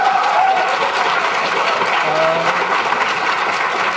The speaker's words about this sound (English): every time Shook would make a point that these atheist students like, they would pound their desks and applaud